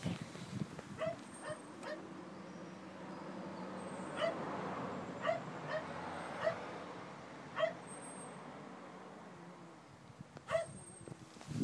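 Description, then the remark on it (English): Dogs whimpering and barking inside a large van with all its windows closed and steamed up: about seven short, sharp barks and yips at irregular intervals, with softer whining between them over a steady low rumble. “The dogs are in the van, and all of the windows on the van are closed, and there is no air in the van, and all the windows have steamed up in the van.”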